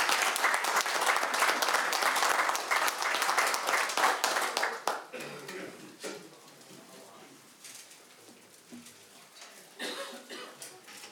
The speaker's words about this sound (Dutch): Ik zou zeggen, even een kleine applaus voor deze.